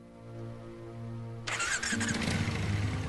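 A motorbike engine runs at a low, steady idle, then abruptly bursts into a louder, rougher roar that keeps going with a throaty, uneven rumble.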